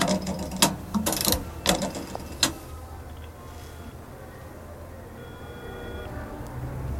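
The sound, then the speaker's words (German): A telephone being dialed in a phone booth to call headquarters: a quick, irregular run of sharp mechanical clicks and ratcheting for a couple of seconds, then a low steady hum with no voices. “Er rief von einer Telefonzelle aus im Hauptquartier an.”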